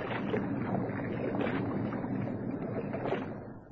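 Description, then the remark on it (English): Oars dip and pull through water from a rowing boat, a steady wash of splashing with a few louder strokes at an unhurried rhythm, no voices. “Ship your oars and drift in.”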